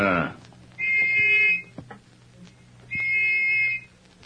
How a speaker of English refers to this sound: took the little brass whistle which he had received from the dying government agent from his pocket. At frequent intervals, he blew it